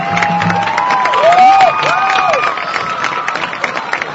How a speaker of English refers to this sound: Let's give a round of applause to the 2025 Homecoming Tour.